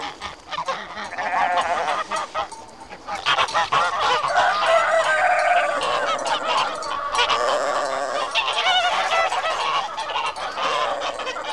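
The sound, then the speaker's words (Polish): A noisy poultry yard full of ducks quacking loudly and constantly as two duck families quarrel fiercely over an eel's head, many birds calling over one another in a dense, overlapping racket that barely pauses. “Przepłynąwszy kawałek drogi, kaczki wyszły znów na ląd i dostały się na kacze podwórze.”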